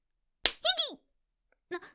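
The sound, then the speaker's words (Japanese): A single sharp slap of a hand on buttocks during a weight-loss training lesson, followed right away by a startled vocal cry and, after a pause, a short soft voiced sound. “なんでお尻を？”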